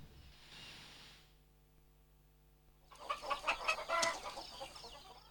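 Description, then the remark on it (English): After a hushed opening, several hens in a hen coop at night break into busy, overlapping clucking that rises to a lively chatter for a couple of seconds before easing off, moderately loud. “Night and Tiger's in the hen coop.”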